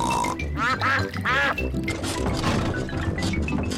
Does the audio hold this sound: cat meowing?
no